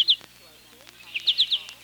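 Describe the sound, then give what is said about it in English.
A goldfinch calls with short, bright, high-pitched chirps: a pair at the start, a brief pause, then a quick run of four, clear. “Goldfinches are also easy to identify by call.”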